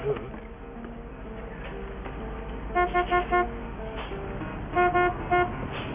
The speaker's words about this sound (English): He's honking. Just ignore him. Okay, he's really honking and it's making a huge scene.